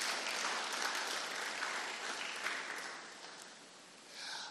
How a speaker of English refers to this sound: Let's clap our hands for Jesus one more time.